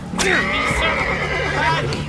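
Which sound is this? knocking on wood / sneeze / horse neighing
horse neighing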